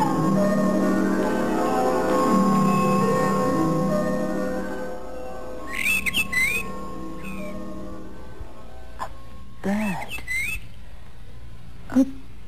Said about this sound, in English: A bird. But that was all. The bird didn't call again.